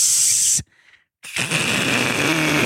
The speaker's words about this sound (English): That's a piece of meat being cooked in a pan outside by a lake like a fucking man.